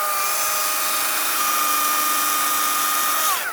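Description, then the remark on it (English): A chainsaw cuts a small hawthorn stem about 2 inches across, roaring steadily for a few seconds, its high whining engine tone holding level before dropping off sharply at the end as the cut finishes. “So I'm just going to cut this little one with a chainsaw.”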